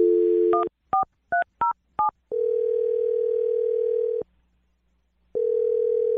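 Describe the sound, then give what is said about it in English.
A steady dial tone, then five quick touch-tone beeps as a phone number is keyed in for a call on the radio show Brooke and Jeffrey in the Morning, followed by a long tone, a brief silence, and the tone resuming. No one speaks. “We're gonna dial her phone number right now and try and get your second date update, okay?”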